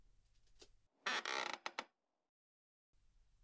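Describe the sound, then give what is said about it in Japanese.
A loud mechanical creak and groan lasting under a second, ending in a couple of sharp clicks, as a salon chair is raised upright after a hair treatment and massage, with low hum around it. “少し椅子を起こしますね。”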